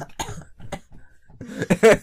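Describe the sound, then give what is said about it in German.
Several rough coughs: two short separate hacks, then a louder, longer coughing fit with some throat clearing toward the end. No one speaks. “Du Raucher, Alter, mal ein bisschen weniger Vapes, da musst du doch nicht bei jedem Husten einfach so husten hier.”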